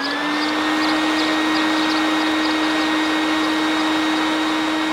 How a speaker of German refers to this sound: Er fliegt mit seiner Handwagenrakete am Mond vorbei bis zum Knopfstern. Und jetzt wirft Pitti zur Probe den Motor an.